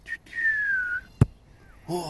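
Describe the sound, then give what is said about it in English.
A mouth-whistled imitation of a footy referee's whistle, made before kicking a ball: a short high blip, then a longer tone sliding slowly downward, followed by a sharp thud and a voice starting up. “Did you just do the footy whistle before kicking the ball? It sounds just like it, cunt.”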